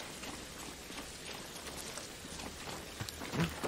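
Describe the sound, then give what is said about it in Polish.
Steady rain from a video game falls in a soft, continuous hiss with scattered droplet taps, fairly quiet and unbroken, with no one speaking. “A czemu, słuchajcie, nie przestał padać deszcz, mimo że zagrałem?”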